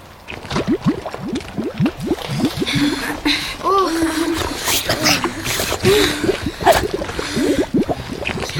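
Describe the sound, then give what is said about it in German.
Continuous water gurgling with rapid wet squelches, like feet sloshing through puddles in an uneven rhythm in a rocky underground passage, with a few brief vocal sounds mixed in around the middle. “Es gluckert so unheimlich.”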